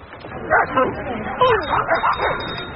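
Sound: dogs barking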